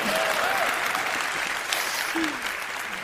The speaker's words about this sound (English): Also, I need to chew this popcorn, so if you guys could just clap your hands a little bit more.